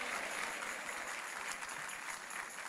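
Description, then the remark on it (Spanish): An audience claps together as applause to the Lord, a dense, steady wash of many hands overlapping into a continuous crackling roar that holds at an even level without pause. “Dale mejor ese aplauso al Señor.”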